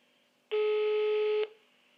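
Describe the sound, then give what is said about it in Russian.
A single steady telephone tone sounds for about a second, loud, like one burst of a ringing signal on the line as a phone call is placed, set against a faint background hum. “Я залезаю в телефон, нахожу номер Алексея и диктую его Сергею. Сергей тут же звонит.”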